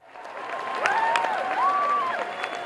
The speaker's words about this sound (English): The big Western Hall crowd did not hide what they thought of the concert. Standing ovations after every song, squeals of delight when their favorites were played on a huge backdrop of orchestral music.